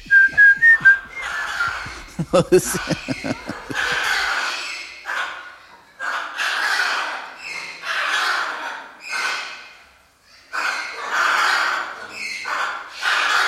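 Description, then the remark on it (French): Two parrots whistle short, bright notes along with a low, rhythmic march from a film in which soldiers whistle, then break into a run of raspy, breathy bursts that continue in uneven phrases after the music drops away. “Et en arrière, toutes les perroquets, les deux, commencent aussi.”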